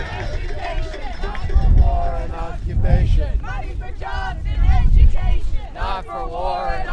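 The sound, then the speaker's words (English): A marching protest crowd of about 100 people crossing Beacon Street into the Common, chanting together, many voices rising and falling in rhythmic surges over a steady rumble of outdoor noise and footsteps. “The crowd then marched, about 100 strong, across Beacon Street and into the Common, chanting along the way.”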